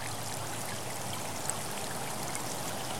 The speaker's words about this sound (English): In the distance, you see a beautiful waterfall.